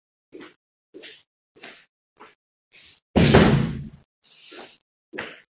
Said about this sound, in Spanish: Vale, voy ahora, un momentito, me levanto, a cerrar una puerta.